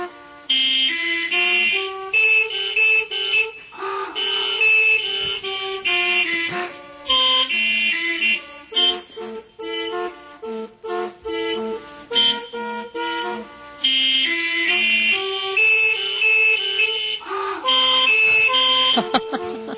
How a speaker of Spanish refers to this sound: Bueno, luego conectó todas estas bocinas a un teclado ¿sí? e interpretó la pieza que vamos a ir en tu honor. Y tú me dirás si te parece que esto es ruido.